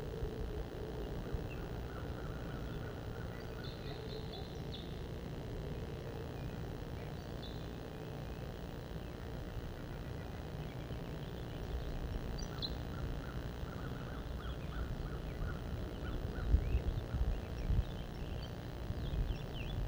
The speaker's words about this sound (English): Purple finch and crossbill song. Wild birds.